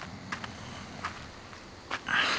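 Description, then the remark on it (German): Low, rasping snoring of two people inside an old VW bus parked behind a church rumbles steadily, with short breathy bursts and a louder hissing exhale at the end; no one speaks. “Auf jeden Fall höre ich da drin jemanden schnarchen.”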